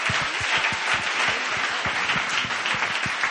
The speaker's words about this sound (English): Awesome, awesome, awesome. All right, give them one more hand of applause.